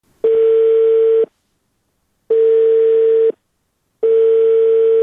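A telephone ringback tone repeats three times, each steady electronic beep lasting about a second with gaps of about a second between, clear and alone, as a call to the public relations head of the Ministry of Public Health rings with no one answering.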